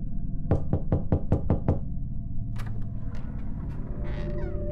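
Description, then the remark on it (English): Seven quick, evenly spaced knocks rap on a door over a low rumbling drone, followed by a cat-like yowling cry. “They knock on your door, waiting to be invited in.”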